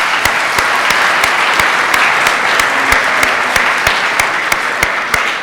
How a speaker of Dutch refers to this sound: Als je ziet hoeveel werk er is verzet, ook door de mensen die gisteren bij Metanoia druk zijn geweest en ook vanavond. Ik denk dat het best wel even een klein applaus waard is voor de jonge mensen.